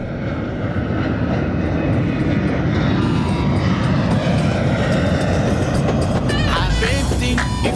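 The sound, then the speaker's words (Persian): A steady, loud airplane engine roar, used as a flight effect for a trip to Dubai, fills the whole stretch, a dense low rumble with a broad hiss above it, as a few faint higher tones flicker in near the end. “ببند کمربند و بریم دبی ببینیم چی این داستان شکلاته.”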